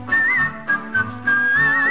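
A bright whistled melody with a wavering, slightly vibrato tone carries over a bouncy musical accompaniment, the tune rising and dipping in short phrases with brief breaks between them.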